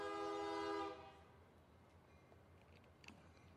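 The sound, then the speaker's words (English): A loud, sustained train horn blares for about a second, then cuts off, leaving the low, steady rumble of a train rolling slowly past. “Here comes a train. So, boy, it's a slow one, so it might take a second.”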